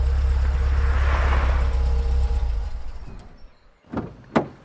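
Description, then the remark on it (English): A vehicle engine rumbles and fades to quiet, then two sharp car door sounds follow in quick succession, fairly loud, as men step out of two black SUVs. “You see two men each in each car step out of the SUVs.”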